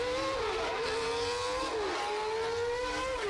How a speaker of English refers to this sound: driving data, collected in 1989, combined with various engine tones collected today from the same Formula One machine, brings back 1 minute and 38.041 seconds from 24 years ago.